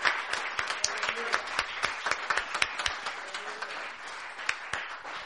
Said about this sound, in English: I think you guys can give a better cheer than that.